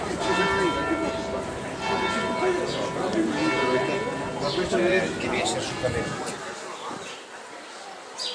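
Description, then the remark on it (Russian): A church bell rings steadily somewhere out of sight with sustained, resonant tones that linger throughout, while people talk over the ringing outdoors by a street, with palms and snowy mountains toward the Alps in view. “Где-то колокол бьет.”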